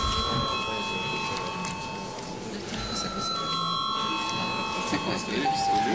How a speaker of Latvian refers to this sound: Līdz ar to lūdzu zvanu reģistrācijai.